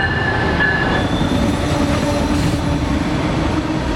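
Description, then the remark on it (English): Amtrak's Empire Builder passenger train rumbles steadily along the rails, a dense low roar with faint metallic squeals and rattling from the cars, with no voices. “Amtrak's Empire Builder first served customers in 1929 as the flagship train of the Great Northern Railway.”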